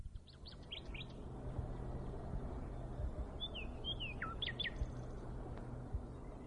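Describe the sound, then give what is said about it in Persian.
A nightingale perched on a tree branch in a green forest sings in short bursts of bright, sweeping whistles and quick repeated notes, set against a steady low outdoor hum with no one speaking. “بین این پرنده ها یه بلبل خوش صدایی بود که وقتی روی شاخه یه درختی می نشست و آواز می خون همه جا ساکت می شد.”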